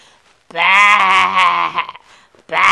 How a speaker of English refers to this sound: Baa, baa. That's the sheep sound.